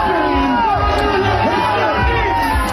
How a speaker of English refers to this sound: He gets booed off the stage.